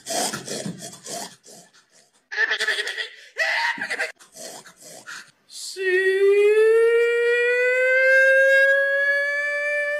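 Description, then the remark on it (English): A compilation of people hog calling, shouting to call pigs: several short, raspy shouted bursts with pauses between them, then one loud, long sustained holler whose pitch climbs slowly and holds for about four seconds. “So that's hog calling for you.”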